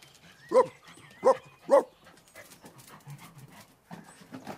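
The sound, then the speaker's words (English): A three-legged stray dog at a shop door barks three times in quick, fairly even succession, loud, then falls quiet, leaving a softer scuffling background with faint panting-like sounds. “The three-legged stray dog, whom nobody owns, is at the shop door.”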